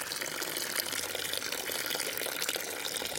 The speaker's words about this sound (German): Der Pfarrer schöpfte dem kleinen Till Eulenspiegel ein bisschen viel Wasser über den Kopf.